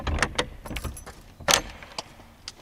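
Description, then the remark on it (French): Sharp metallic clinks and rattles, like keys and an old latch, followed by a louder clunk as a heavy old door from the Sarthe, the entrance to an exhibition in a 300-year-old former paper mill, is worked open, then a few lighter clicks. “Voilà l'entrée pour l'exposition. C'est une vieille porte sartoise.”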